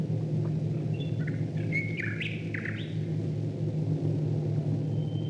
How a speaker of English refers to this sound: Second World War, the BBC tried to keep up its own long-standing tradition of broadcasting birdsong over the radio to help people keep calm and carry on. But in this recording, you can hear the sound of Royal Air Force bombers flying above the birds.